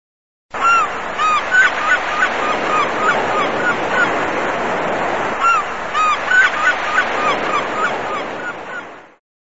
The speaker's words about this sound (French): Je n'avais jamais entendu les chants des mouettes. Mais quand je suis arrivée en France, j'ai habité à Caen pendant un an. C'est une ville au bord de la mer. Je pouvais entendre les mouettes presque partout.